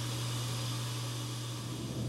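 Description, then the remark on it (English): A dishwasher running steadily, a constant low motor hum under an even, airy whoosh of water, unbroken for the whole stretch with no voices. “The dishwasher.”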